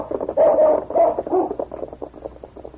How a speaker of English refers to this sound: Find them, King. Find, boy. The intelligent dog circled around a moment, then once more barked to indicate he had picked up the scent. King has the scent again.